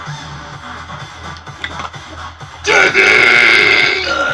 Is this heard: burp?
yes